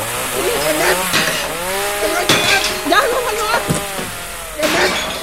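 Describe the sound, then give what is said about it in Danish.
A power saw revs and whines up and down in pitch, with rough bursts as it bites into material, loud, while voices occasionally sound around it. “Jeg vil ikke købe ting, der er savet over. Jeg vil selv save dem over nu.”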